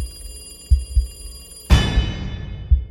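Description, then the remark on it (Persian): A telephone bell suddenly rings out loud and bright about halfway through, its metallic tone lingering and fading, over a quiet background with a few soft low thuds. “زنگ تلفن سکوت فضا رو پاره کرد.”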